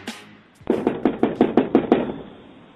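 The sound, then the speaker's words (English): A quick, steady run of about eight firm, fairly loud knocks on a front door by Detroit police during an investigation, recorded on a Ring doorbell camera, with no voices and a faint background hush before and after. “They're going around knocking on doors.”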